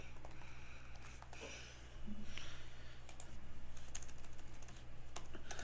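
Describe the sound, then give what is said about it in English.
Rapid typing on a computer keyboard, a steady stream of quick clicks and taps with short pauses, over a constant low hum. “Sorry for all the typing.”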